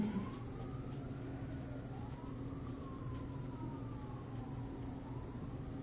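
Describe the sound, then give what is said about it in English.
An ambulance siren wails outside, its pitch sweeping slowly up and down over a steady low traffic rumble, holding steady throughout with no one speaking. “Hey, the ambulances are coming for all the wounded in here.”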